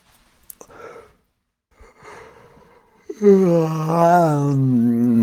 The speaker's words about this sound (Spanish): Y vuelves a respirar completamente, inhalas, usas todo tu cuerpo. La caja torácica está bien abierta porque estás en el piso.